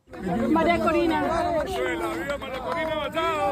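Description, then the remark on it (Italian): A small crowd of supporters and journalists clamours at once as Venezuelan opposition leader Maria Corina Machado leaves the White House, several raised voices shouting questions and calling over one another in a dense, steady babble that never lets up across the few seconds. “Maria Corina Machado lascia la Casa Bianca tra una piccola folla di suoi sostenitori.”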